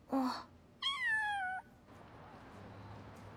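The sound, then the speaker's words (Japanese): A cat meows twice, a short chirp followed by a longer, drawn-out meow that slides downward in pitch, then quiet background noise. “それで猫とお話ができるんですか？”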